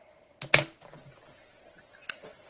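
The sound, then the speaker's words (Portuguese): A lighter is flicked a few times without catching: a quick pair of sharp, scratchy clicks, then a single fainter flick a moment later, over a quiet background hum. “Tem um monte de isqueiro aqui, vazio”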